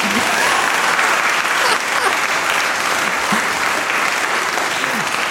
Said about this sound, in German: macht einfach mal einen Applaus, das kommt immer gut.